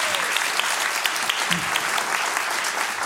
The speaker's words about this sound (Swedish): En applåd.